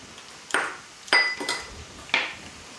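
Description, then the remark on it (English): Garlic being crushed in a garlic press gives four sharp metallic clicks at uneven intervals, a couple leaving a brief high ringing tone, with no voices. “Smashing some more garlic.”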